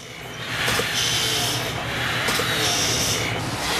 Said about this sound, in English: A lifting truck transports raw logs in its jaws outside, while inside men take cut wood from the conveyor belt and put it into piles.